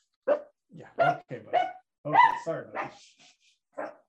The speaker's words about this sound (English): And so they learn how to bark like a real dog.